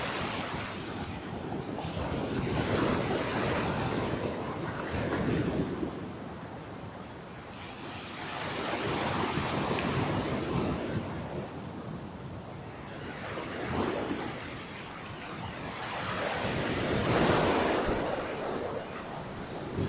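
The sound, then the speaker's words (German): Ocean waves surge and recede in slow swells on a dark sea in the evening sun, three or four broad crests rolling through, with steady wind rushing over the water. No voices, just the continuous wash of sea and gusts. “Ja, am Anfang ist das Meer zu sehen, so ein dunkles, geheimnisvolles Meer in der Abendsonne.”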